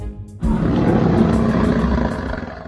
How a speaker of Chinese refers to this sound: 琪琪听到了一阵吼声